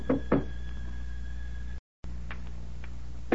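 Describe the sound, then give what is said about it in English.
Someone knocks on an apartment door at Washington Square, a quick pair of firm raps followed later by a few lighter, spaced knocks, all over a steady low hum with a faint high tone. “Reaching the door of the apartment...”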